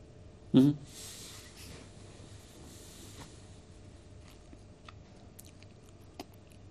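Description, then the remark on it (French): A steady, low whirring hum of an amplifier's cooling fan, background noise in the installation, runs throughout, broken by one loud thump near the start and a few faint scattered clicks. “On a un bruit de fond en installation, le ventilo de l'ampli.”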